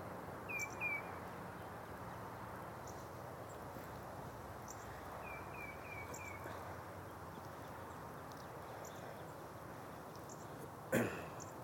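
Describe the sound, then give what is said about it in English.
A bird gives two short bursts of high, quick chirps, one early and one midway, over a steady wash of outdoor background noise in the early morning in Franklin, Massachusetts, with a sharp brief knock near the end. “The one who was responding to this bird must have moved away.”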